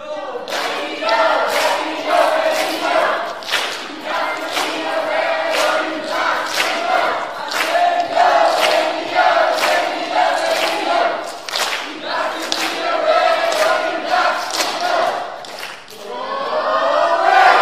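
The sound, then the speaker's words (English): The red team's large crowd cheers and screams continuously at full volume at a kickoff, with bursts of whooping and shouting layered over a steady roar of many voices throughout. “I want to see who is not just screaming, but who is participating and cheering for their team.”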